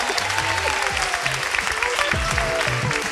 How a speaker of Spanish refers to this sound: Oye, no ganaron en el Grand Prix, pero ha sido la ganadora de este teatro porque ha sido la elegida para el break para el coffee. Un aplauso para